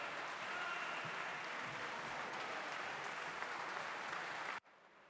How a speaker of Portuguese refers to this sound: Aplausos.